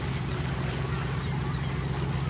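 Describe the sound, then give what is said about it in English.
The engine of the Christina, a big fishing boat, drones steadily as it pulls in to dock, a deep, constant rumble with a low hum and washing noise, unbroken throughout. “I heard the sound of a big boat pulling in and swiveled my head in time to get an upside-down view of the Christina pulling in and Hibbert at the controls.”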